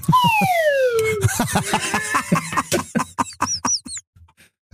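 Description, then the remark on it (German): A loud, harmonic whine from an airplane sweeps steadily downward in pitch, likened to the USS Enterprise braking out of warp, then gives way to rapid rattling pulses and short high chirps before fading. “Ich sag mal, es glaubt uns kein Mensch, dass das Flugzeug hier bei mir sagt, dass die USS Enterprise so bremst.”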